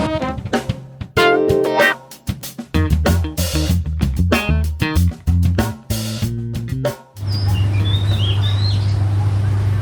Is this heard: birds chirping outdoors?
yes